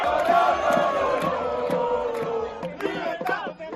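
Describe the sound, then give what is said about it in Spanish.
A large crowd on balconies, streets and squares cheering and shouting to celebrate the end of the pandemic state of alarm: a dense, loud roar of overlapping voices, with whoops and yells rising above it and a few sharper bursts near the end. “El final del estado de alarma y la locura que se pudo ver en algunas casas, y digo casas porque en algunos balcones lo sabía, en muchas calles y en muchísimas plazas.”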